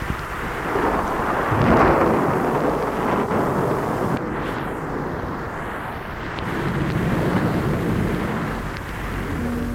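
Deep, continuous thunder rumbles through a rainstorm with lightning, swelling loudly early on and again near the end, with a broad wash of rain-like noise underneath and no voices.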